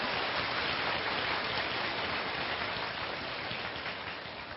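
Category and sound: crowd, long round of applause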